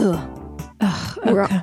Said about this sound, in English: You still coughing?